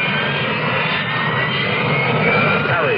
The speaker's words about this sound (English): What is a Harrier? It isn't a helicopter, but it could land in your backyard. Harrier. It isn't a conventional jet, but it can match the speed of sound.